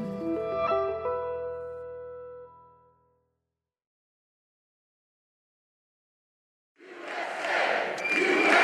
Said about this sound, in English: Oh, this is some crowd. This is what our group. I know so many of the people. Oh, these people. They're tough as hell. They're from Georgia. They should be tough.